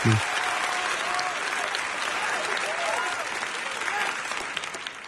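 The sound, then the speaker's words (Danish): A steady burst of crowd applause, dense and sustained clapping for about five seconds at an even level, with faint voices mixed into the crowd noise. “Det var bifald.”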